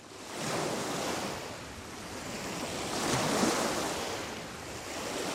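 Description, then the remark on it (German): Ocean waves rush onto the shore in broad, steady surges that swell and ease over a few seconds, a continuous hissing wash with no voices. “Hört ihr es auch schon? Das Meer rauschen.”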